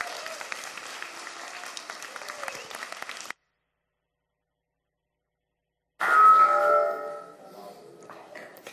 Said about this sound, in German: Glückwunsch von uns allen. Und ich glaube, wir dürfen noch mal klatschen, dann dürft ihr euch hinsetzen.